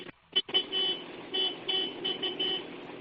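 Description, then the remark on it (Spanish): A tractor horn honks: two quick short toots, then a long, loud blare that wavers and pulses in strength for a few seconds, with no one talking. “¿Y en qué momento un tractor toca el claxon?”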